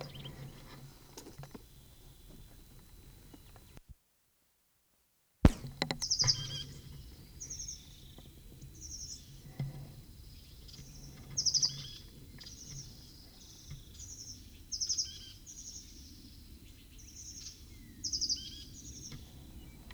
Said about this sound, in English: 8:44, same bird.